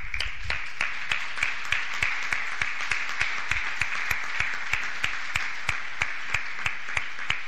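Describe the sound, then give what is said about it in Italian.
Applause for the council members at a municipal council session, steady dense clapping with a few sharper individual claps standing out, sustained at moderate volume for several seconds with no one speaking. “A questo punto farei anche un applauso ai consiglieri.”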